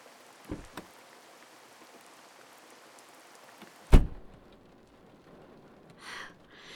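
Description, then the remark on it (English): Steady, heavy rain hisses outdoors for a few seconds, then a loud car door thunks shut as someone gets into a stopped car for a ride, and the downpour drops to a muffled patter, as if heard from inside the car. “Yeah, I guess a ride would be nice. It is raining cats and dogs out here.”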